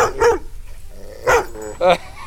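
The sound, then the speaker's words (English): A dog barks three times: one short yap, then after a pause two more sharp barks in quick succession, with quiet background noise in between. “I don't think she's going to bark.”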